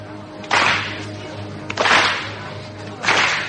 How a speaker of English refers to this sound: Slow clap.